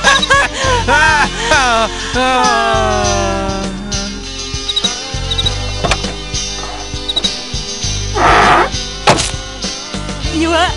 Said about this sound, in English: You slammed my hand in the car door. Oh my god.